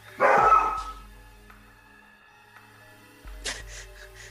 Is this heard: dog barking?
yes